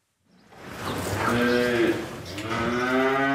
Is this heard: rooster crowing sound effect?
no